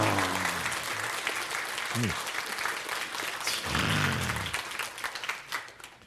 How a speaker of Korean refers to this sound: 박수